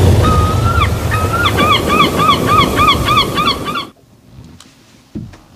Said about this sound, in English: Yes, it is, as the seagull goes to roost.